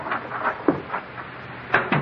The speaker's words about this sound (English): someone just came into the house. I heard the front door close.